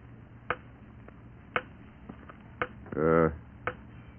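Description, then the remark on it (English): A grandfather clock ticks steadily, crisp loud clicks about once a second alternating with softer tocks, while a voice briefly murmurs partway through. “All grandfather clocks tick like that.”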